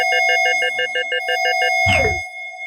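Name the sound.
alarm ringing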